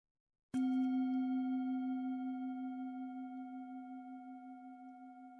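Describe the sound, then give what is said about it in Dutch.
A meditation bell is struck once with a sharp attack, signalling the start of a meditation, then rings on as a steady, mid-pitched tone with clear overtones, fading slowly and gently pulsing over several seconds. “Als je de bel hoort, dan begint de meditatie.”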